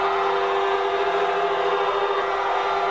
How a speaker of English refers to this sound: In the capital of the northwestern province of Qinghai, where the quake struck, car horns and sirens blared as thousands of people stood in silence.